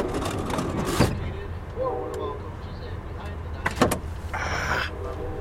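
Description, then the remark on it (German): A train compartment door slides and clunks shut with two sharp knocks and some rattling of its small locking mechanism, set against a steady low rumble of the moving train. “So, jetzt können wir die Tür jetzt zumachen.”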